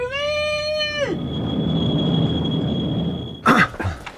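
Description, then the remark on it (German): A tram rumbles past on its rails, with a brief sustained horn blast at the start and a thin, steady metallic squeal above the rolling noise, ending in a sudden clattering burst. “Immer zwischen den Straßenbahn schieben.”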